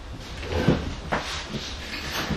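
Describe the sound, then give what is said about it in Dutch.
A folding chair is handled and unfolded, with a few scraping, clacking mechanical knocks spread unevenly over a couple of seconds against a faint background hiss. “Dit is een klapstoel.”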